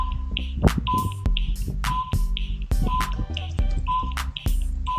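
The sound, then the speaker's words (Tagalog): A 10-second countdown timer sound effect for answering a quiz question: steady electronic beeps about once per second with sharp ticks, over a low droning, tense musical bed, loud with no voices. “Okay, you have 10 seconds to answer the question. Timer starts now.”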